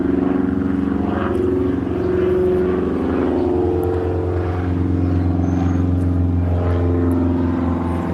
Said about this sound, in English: Sorry, I'm just waiting for this the plane to go.